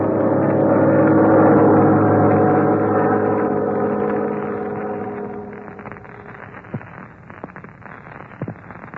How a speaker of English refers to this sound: Look, Red, a black-winged plane. A black-winged plane? That can mean only one thing. One of Shark's planes has been following us.